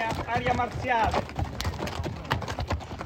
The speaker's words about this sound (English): But during the day, you might hear horses like these clomping along on its basalt stones, as they have for thousands of years.